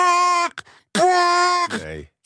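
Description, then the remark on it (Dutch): A person imitates an elephant trumpeting with two loud, brassy blasts, the second longer and swelling upward, then trailing into a rough, sputtering fall. “kan je even de olifant toeter nadoen?”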